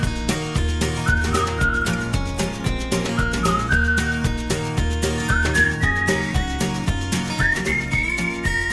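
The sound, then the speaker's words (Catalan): A person whistles a bright, repeating melody, each phrase rising in pitch, over a steady rhythmic musical backing with bass and percussion. No one speaks. “Saps xiular”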